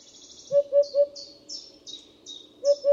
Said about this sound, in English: The Eurasian hoopoe is a striking cinnamon-colored bird with black and white wings and a mohawk. It breeds in Asia, Africa, and Europe.